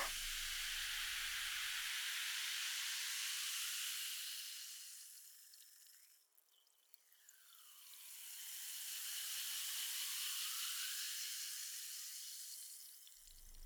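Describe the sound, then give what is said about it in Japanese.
Steady fizzing of a carbonated drink for a toast, a bright crackling hiss that swells, briefly fades to a lull midway, then surges back up before cutting off. No voices. “うん、それじゃあとりあえず乾杯しよ。はーい、魔法のシュワシュワ。”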